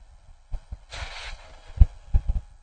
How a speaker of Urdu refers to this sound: یہ ہمارے مغرب میں، یورپ، امریکہ وغیرہ میں، ماں کے دل کی دھڑکنیں اور ماں کی ہلکی آوازیں ریکارڈ کر لیتے ہیں.